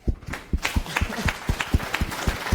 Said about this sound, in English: Applause.